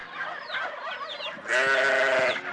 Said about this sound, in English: A sheep.